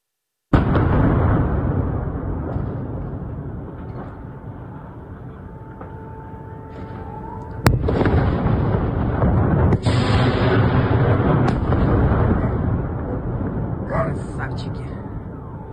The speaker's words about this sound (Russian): Ну, не только ВСУ поражают Антоновский мост. Вот появилось в сети видео и взрывов Новой Каховки. Давайте посмотрим.